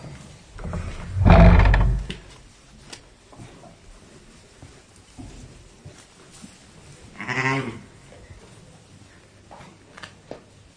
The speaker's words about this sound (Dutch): Het is lente en onze schapen staan nu in de stal, want het is lammertijd. En er zijn al heel veel lammetjes geboren.